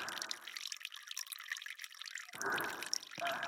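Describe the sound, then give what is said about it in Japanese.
Urine dripping and trickling into a bottle as a woman urinates into it: a dense, bright patter of drops that runs steadily, swelling into fuller gushes near the end, with no voices. “瓶の底に従来私のおしっこが溜まっていく。”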